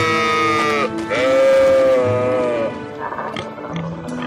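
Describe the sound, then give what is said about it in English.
An alpaca lets out loud, wavering bleat-like cries, two drawn-out nasal calls with a steady pitch, followed by softer, choppier grunting sounds. “Is that a llama with a hammer? An alpaca.”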